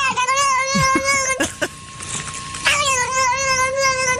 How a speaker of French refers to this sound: c'est bien un chat qui reçoit des petites gratouilles sur le dos